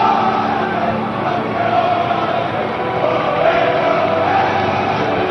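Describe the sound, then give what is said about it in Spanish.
Barça (FC Barcelona) players shout and cheer together, celebrating their Copa del Rey title against Athletic Club de Bilbao, their overlapping voices forming a loud, continuous roar that holds steady for several seconds with no clear individual words. “Y estos son los gritos de los jugadores del Barça.”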